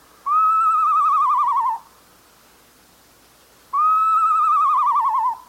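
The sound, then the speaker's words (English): A northern saw-whet owl gives two long, wavering whistled wails, each slightly falling in pitch, loud, separated by a pause of about two seconds, with no voices. “If it sounds like someone learning to play a recorder, it's a northern saw-whet owl.”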